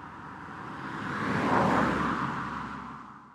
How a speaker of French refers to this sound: Bien occupée par ce travail, je n'ai pas entendu arriver une voiture qui roulait trop vite. Celle-ci ne m'a pas vue et m'a renversée.